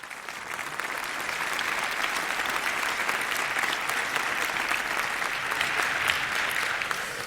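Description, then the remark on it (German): Sustained audience applause welcoming the speakers at the start of a talk, a dense steady wash of many hands clapping at an even level for several seconds, with no voices standing out. “Also gebt ihm einen großartigen Applaus und viel Spaß bei dem Talk.”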